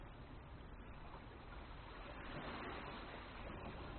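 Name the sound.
ocean waves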